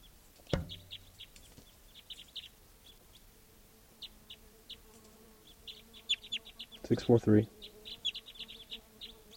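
A bird calls with quick, high-pitched chirps repeated steadily throughout, fairly faint, with a brief thump early on and a short burst of a lower, voice-like sound near the end.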